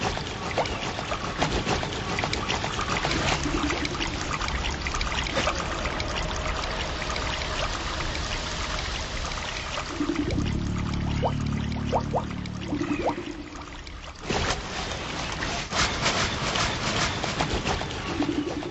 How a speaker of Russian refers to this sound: работу, сотканную из шума прибоя Балтийского моря.